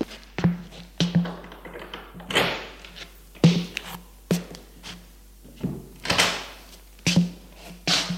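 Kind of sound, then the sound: household object, door being opened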